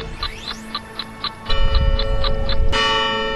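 St. Mary's Church bells chime 2 o'clock: a quick, even run of bright metallic strikes gives way to fuller, sustained ringing that swells louder and ends on a bright lingering chime, with no voices.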